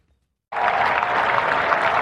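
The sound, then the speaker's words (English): After half a second of silence, supporters lining the footpath of Downing Street, London, burst into sustained applause and cheering as a black car carrying the new Prime Minister drives through the Iron Gates, a dense, steady wash of clapping and voices that continues loudly to the end. “With cheering supporters dotted along the side of the footpath, a black car drives through the famous Iron Gates.”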